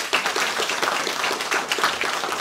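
A crowd applauds steadily, many hands clapping in a dense, even patter at a moderate level with no voices breaking through.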